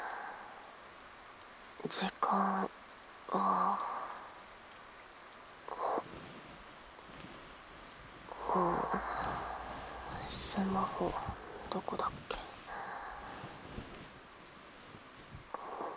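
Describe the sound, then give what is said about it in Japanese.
A soft, steady hiss of rain falling outside runs faintly through the whole recording, while a person murmurs quietly in short bursts, with some light rustling. “うん、雨降ってる。”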